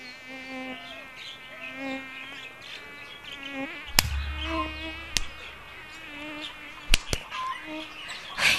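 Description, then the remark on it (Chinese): Mosquitoes whine persistently through the night in Yongping, Yunnan, China, their thin high buzz rising and fading throughout, broken by a few sharp knocks and a low rumble partway through. “我被蚊子和跳蚤咬了一个晚上，身上已经没有一块好皮肤了。”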